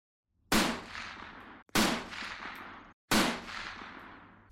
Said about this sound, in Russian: В лагере отсутствующих хватились только вечером. Как и было положено в таких случаях, конвоиры дали 3 выстрела в воздух.